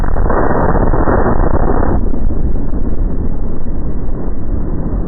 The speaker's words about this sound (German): Mehrere Explosionen zerrissen die zwei Riesenskulpturen und Dutzende weitere kleine Statuen völlig.